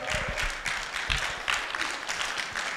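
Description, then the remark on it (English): A crowd claps steadily for a few seconds, a dense, hissy wash of many hands with small surges in loudness, and no voices over it. “You ought to clap better than that.”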